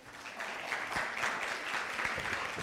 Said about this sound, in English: Can we give these two a round of applause?